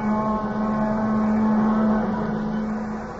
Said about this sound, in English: The plaintive wail of the train whistle drifting back at him now somehow recalled that other time and place, exactly as if it were this moment.